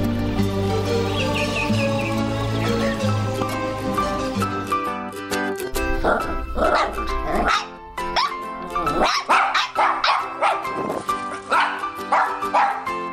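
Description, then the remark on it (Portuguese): A puppy yaps and barks in a string of short, high bursts, coming faster in the second half, over a steady bed of soft background music. “Que amor, um filhotinho de cachorro.”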